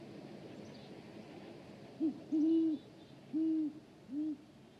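An owl hoots four times in a low, mellow voice, a short note followed by longer drawn-out hoots, clear over a steady hiss of night ambience with no talking.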